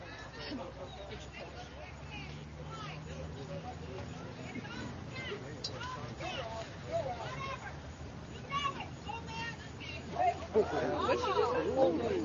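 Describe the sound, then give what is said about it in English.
A crowd at a baseball game between Washington County and Smithville talking back at the referee in a dense, overlapping babble of many voices over a low steady hum, growing louder and more agitated toward the end. “And we're getting a little bit of back talk from the crowd here.”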